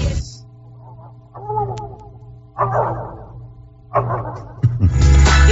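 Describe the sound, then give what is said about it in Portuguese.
A voice imitates a dog barking about 2 kilometres away: several muffled, drawn-out yelps spaced a second or so apart, rising at the end over a steady low hum. “manda um cachorro a 2 quilômetros pra nós.”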